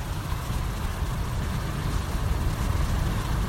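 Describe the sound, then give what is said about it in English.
Cold Atlantic Ocean swell rolling in and breaking on the shores of Misty Cliffs near Scarborough, Cape Town, South Africa, makes a steady, unbroken hiss over a heavy low rumble, holding even in loudness throughout, with no voices. “To take our minds off our current troubles, please excuse my rudimentary recording equipment, as the sounds are more nuanced than the hiss I've recorded of the cold Atlantic swell rolling in and breaking on the shores of Misty Cliffs near Scarborough”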